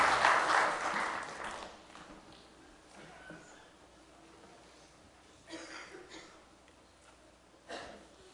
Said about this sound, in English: Give her a nice hand as she gets ready to sing for you this morning.